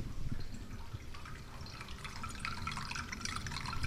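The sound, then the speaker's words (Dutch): A soft, steady trickle of water runs throughout in a cat enclosure, with small bright drips and splashes scattered over a low continuous burble; no one speaks. “kattenverblijf waar een heel rustgevend watertje te horen is.”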